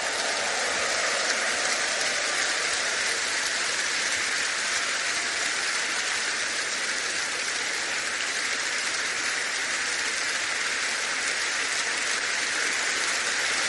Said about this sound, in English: Stand to your feet, everybody. Give the Lord the biggest clap offering.